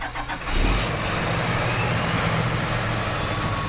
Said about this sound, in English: At a tour for local farmers, a large pump slurps up manure from a holding pit. It shoots into bright yellow hoses.